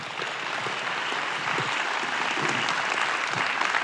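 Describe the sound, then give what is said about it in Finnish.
Sustained audience applause at a book fair, greeting author Tuula Karjalainen and Dr. Jenni Haukio before their talk, a dense, steady wash of many hands clapping at an even loudness for several seconds with no voices over it. “Annetaan heille oikein raikuvat aplodit.”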